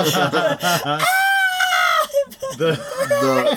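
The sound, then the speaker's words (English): A person mock-screams, imitating the original Human Torch, the character who screamed all the time: choppy, strained vocal bursts give way to a long, loud, high-pitched wail lasting about a second, followed by more harsh, yelling cries. “The original Human Torch, the one that just screamed all the time.”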